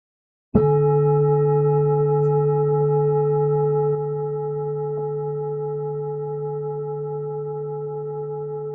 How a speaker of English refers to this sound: in our meditation, we will begin with one bell in the beginning and three at the end.